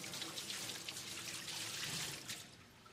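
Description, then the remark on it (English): Water pours steadily onto cellophane covering the top of a vase, pattering and splashing in a continuous crinkly rush that tapers off near the end; quiet, with no voices. “So I don't know if you can see very well, but there's actually cellophane on top of that vase there. This one, actually. And as much as they tried, the water just wouldn't go in.”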